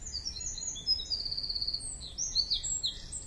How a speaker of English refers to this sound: First one is going to be the sound of a blackbird chirping.